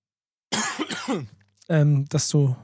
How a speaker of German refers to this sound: Ja, da irgendwie will mein Husten auch nicht weniger werden.